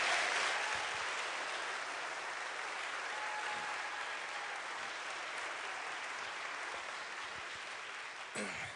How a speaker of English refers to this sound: Please give a warm round of applause to civil rights attorney John Burris and to Michelle Alexander, the author of The New Jim Crow.